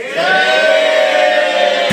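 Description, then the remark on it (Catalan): A studio audience shouts 'sí' (yes) together in one loud, drawn-out cry of approval, voting in favour of a contestant entering the bunker, many voices blending into a sustained roar that cuts off abruptly after a couple of seconds. “Fa por, però anem a veure què en pensa el públic.”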